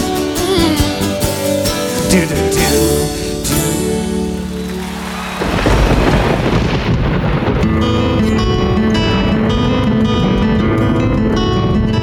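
Melodic music plays, then about halfway through a loud, sustained rumble of rolling thunder and rushing storm noise swells in and continues beneath the music.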